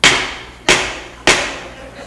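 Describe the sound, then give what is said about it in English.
Three loud, evenly spaced knocks on a padlocked back door at midnight, each a sharp solid rap with a short ringing decay, about half a second apart with no voices. “There were three knocks at the back door.”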